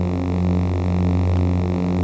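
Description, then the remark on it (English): A steady, loud electric hum with a deep buzzing drone and faint higher harmonics, holding constant without variation for a couple of seconds: the idle humming loop of a lightsaber sound effect, made by Marshall, without Doppler effect. “I was able to take the steady sound of the lightsaber and give it a sense of movement”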